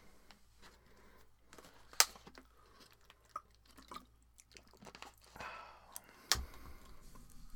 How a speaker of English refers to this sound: As I sip a little bit of water very quickly.